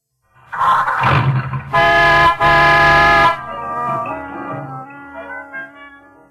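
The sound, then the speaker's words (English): A loud car horn honks in two long, blaring blasts, then the car's engine starts, roars and settles into a steady rumbling hum; the car is equipped with an Autolite electrical system powering the horn and engine starting. No one speaks. “I'm showing you how the Autolite electrical system in your Autolite-equipped car provides the power for starting the engine, sounding the horn, and playing the radio.”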